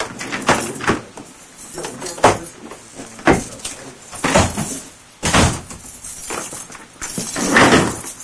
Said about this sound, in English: And I'm going to shut the door because our lovely people are in the hallway getting ready. Hang on just a moment.